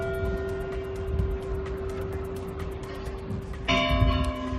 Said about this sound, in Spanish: Así han tocado a difunto las campanas de la iglesia de San Pedro, donde la misa de Acción de Gracias de este lunes ha servido como adiós a Francisco.